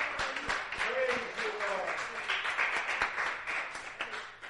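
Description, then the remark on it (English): A crowd cheers and claps for the Lord, a dense wash of applause with scattered shouts and whoops rising over it, sustained for several seconds at a fairly even loudness. “Give the Lord a cheer.”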